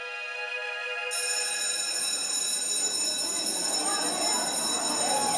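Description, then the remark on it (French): An electric school bell rings continuously at 4:50 pm at the Bois d'Aune middle school in Conflans-Sainte-Honorine on Friday 16 October 2020, a steady bright tone that swells louder after the first second and keeps going, with a murmur of voices underneath. “Il est 16h50 quand la sonnerie retentit au collège du Bois d'Aune.”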